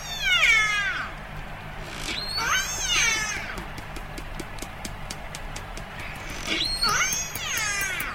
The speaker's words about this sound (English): Now, this is a family-specific call, and it's a biphonic call. Call meaning one animal is making a low frequency and a high frequency call at the same time.